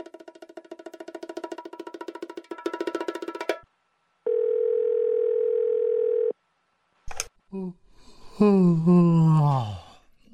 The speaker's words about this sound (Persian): نشد که ما یک دفعه تلفن کنیم با یگان نفر شما رخ شویم؟ نکنه شما هم رقم همی دفتر هستی؟ نه، وقتی تلفن میکنی کسی جواب نمیده، وقتی میری پیششان کلگی با تلفن گپ میزنن، بیکار نمیشن که یک سوال ازشان پرسان کنی.